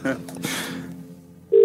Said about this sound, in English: Okay, here we go. All right, I'm hitting dial.